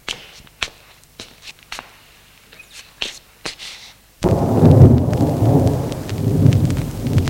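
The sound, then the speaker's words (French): A loud thunderclap during a thunderstorm erupts midway and rolls on in a deep, sustained rumble, following a few sharp scattered taps and drips of rain against a quiet backdrop. No one speaks. “Un coup de tonnerre retentit.”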